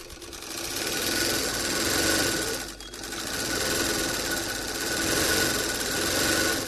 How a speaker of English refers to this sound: Zainab Ashadu is busy at work, using a sewing machine to stitch her finished products together.